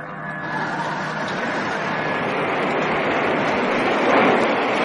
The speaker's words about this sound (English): And as submarine Thrasher rose out of the depths into the surface darkness, there came the rush of water from her conning tower and deck, followed by the slap of night waves as she wallowed.